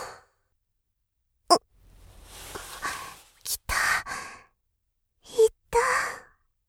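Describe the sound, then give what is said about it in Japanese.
A drawn-out breathy yawn: a soft rising inhale, then short voiced, sighing bursts trailing off, with a brief click at the start. Faint overall. “あくびですわ。”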